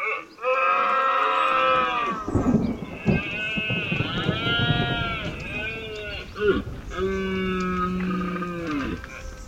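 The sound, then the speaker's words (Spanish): Red deer stags bellow during the rut: long, drawn-out groaning roars, several in a row and partly overlapping, loud with no talking. “La berrea del ciervo, los bramidos y testarazos de los machos, con el inseparable sonido de los truenos.”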